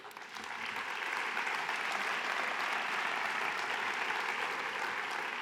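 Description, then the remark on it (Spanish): A crowd claps steadily, a dense, sustained wash of applause that swells in the first second and holds at an even level, with no voices over it. The applause is given in memory of a late Soria businessman at an event of the Chamber in Soria, Spain. “Vaya para él también nuestro recuerdo y nuestro aplauso.”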